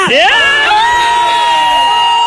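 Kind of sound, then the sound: crowd, crowd cheering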